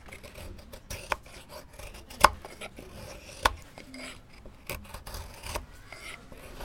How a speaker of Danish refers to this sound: Ja, lige nu der laver jeg navler i sælgepil, som skal sidde i havhængsten. Der er en reparation på havhængsten, altså den, der hedder det fund, der hedder Skuldelev 2.